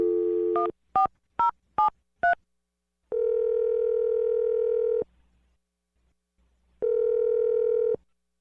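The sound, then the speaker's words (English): A steady dial tone gives way to a quick run of five touch-tone beeps as a number is dialed, followed by two long, buzzing ring tones separated by a pause of silence. “Let's dial his phone number.”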